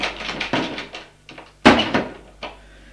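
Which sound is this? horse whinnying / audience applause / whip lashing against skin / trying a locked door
trying a locked door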